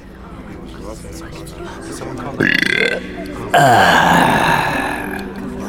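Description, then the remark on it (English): Two loud belches in a cavern, burping up snake: a short throaty burp, then after a brief pause a longer, drawn-out rumbling one that slowly trails off. “Jig stood in the main cavern, burping up snake and watching the satiated goblins.”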